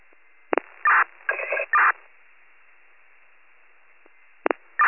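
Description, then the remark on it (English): County dispatch radio alert tones for rescue units over a narrow band: a sharp click, then a series of steady, buzzy tone bursts, followed by quiet hiss and another short burst with a click. “Chief 28, standby one, putting out tones.”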